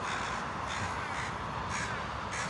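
Four crows, in two pairs, gathered on the high fence of a baseball field, caw back and forth in rapid, overlapping bursts, harsh and loud, with repeated calls every half second or so over a steady hiss of outdoor background noise.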